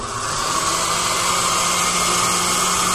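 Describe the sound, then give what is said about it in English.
A blender, filled about halfway and covered with its top and a towel, blends potato and leek soup until smooth: a loud, even roar of motor whir and whooshing liquid for a few seconds, with no pauses and no voices. “And now we're going to blend the soup until it's smooth.”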